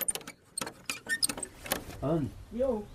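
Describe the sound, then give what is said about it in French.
Keys jangle and metallic clicks rattle as the door of a small 2-by-3-metre cabin is unlocked and opened, followed by a brief voice speaking near the end. “Lorsque la porte s'ouvre enfin, une dame menue m'accueille tout sourire.”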